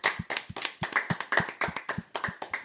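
Audience applause: a steady, rhythmic run of sharp hand claps, roughly five per second, moderately loud and evenly spaced, with no one talking over it.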